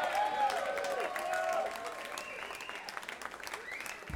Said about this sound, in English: Hearty applause. Yeah. They liked your song.